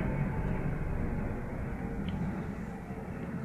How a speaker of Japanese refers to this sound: これなんか自衛隊っぽい、自衛隊のヘリっぽい音ですね。